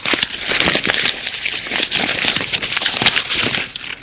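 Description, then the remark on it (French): Paper wrapping is ripped and crumpled off a string-tied package on an office table, a dense, continuous crackling rustle of tearing paper, fairly loud, lasting several seconds with no voices. “Il effaie la ficelle et arrache le papier.”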